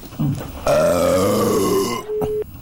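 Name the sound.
pig grunting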